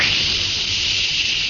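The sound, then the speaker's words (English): A steady, loud jet of fresh, pure moisture hisses without a break for about a second and a half, bright and airy, with no voices over it; it stands for the new Rolly 903 cigarette. “That jet of fresh pure moisture stands for the new, all-new Rolly 903 cigarette.”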